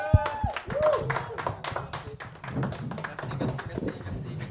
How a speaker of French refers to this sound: Fait que j'aimerais qu'on applaudisse tout le monde.